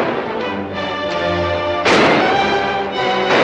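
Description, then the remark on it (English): A loud, sharp gunshot fired by Barlow cracks out midway and ricochets off a rock, over a dense, droning musical bed, and a second shot bursts in near the end. No voices. “Pete's hiding behind a rock, exchanging fire with Monk, when Frank crawls over, drawing a shot from Barlow, which ricochets off a rock in front of him.”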